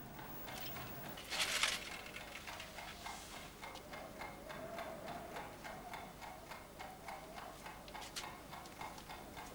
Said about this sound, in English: The tick of the timer switch, a constant noise.